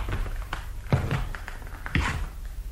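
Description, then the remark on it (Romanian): Slow footsteps thud across a hard floor toward a door, two heavy steps standing out between lighter taps, with a faint low hum underneath and no voices. “Am ajuns la ușă. Pașii ăștia pot să treacă uneori și ani întregi până să-i faci.”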